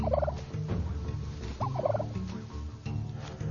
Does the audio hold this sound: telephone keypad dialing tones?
no